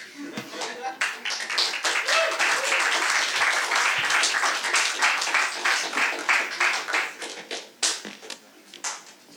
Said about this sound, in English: Another kind round of applause for Chief of Neurosurgery